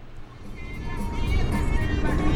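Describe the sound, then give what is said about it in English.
Steady low engine rumble inside a pickup truck, a continuous idling drone with faint higher whine, holding constant throughout. “After the appointment, Perez sits in the back seat of a pickup truck and tells me his story.”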